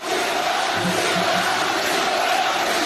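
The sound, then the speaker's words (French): A large crowd at a rally in Villepinte chants the name "Nicolas" in unison in support of Nicolas Dupont-Aignan, a loud, steady wall of voices that holds for the full few seconds with no single speaker standing out. “Nicolas crie les gens.”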